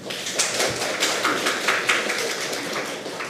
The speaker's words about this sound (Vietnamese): Cho một tràng vỗ tay.